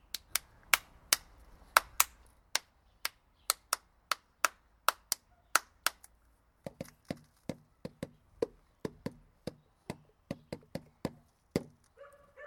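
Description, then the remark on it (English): A steady run of sharp percussive claps or taps beats out a drum rhythm, fairly loud, with some hits doubling up in quick pairs and no talking over them. “I'm hopeless at remembering drum rhythms.”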